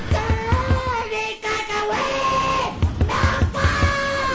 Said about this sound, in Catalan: Vaig tenir temps de sentir en Quim picant a la porta i cridant desesperadament.